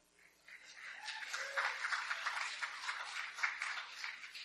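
Audience applause rises within the first half second and holds as a steady, dense patter of many hands clapping together, fairly soft, with no talking over it.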